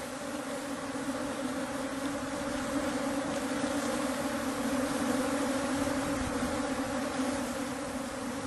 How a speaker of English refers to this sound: This is a full-blown Africanized bee attack underway. Just got stung a few times in the shoulder, so I've about had enough.